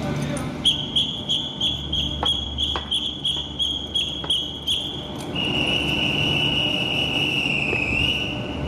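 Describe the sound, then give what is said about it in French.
A shrill train departure whistle, blown for the departure of a night train to Briançon, in one long blast, trilling and pulsing at first, then held steady for several seconds over low rumbling background noise. “Je commence à siffler.”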